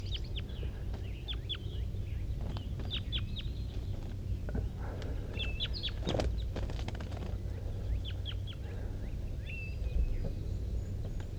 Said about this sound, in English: There's a wild bird sitting in the top of the dead pine here.